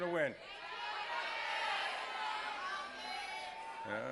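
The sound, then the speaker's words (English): A large crowd at a morning event shouts back all at once who will win the Super Bowl, a loud jumble of overlapping voices calling out for several seconds, framed by a single voice speaking briefly at the start and end. “Sounds like a Patriots crowd here, I think, right?”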